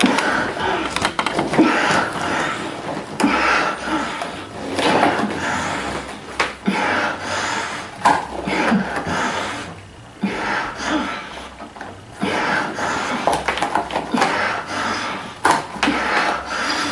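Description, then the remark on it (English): Strained coughing and ragged gasping breaths from a female having a seizure come in irregular bursts, fairly loud and nearly continuous, with only brief pauses between them and no talking. “The screaming has stopped. Now it's like coughing and gasping.”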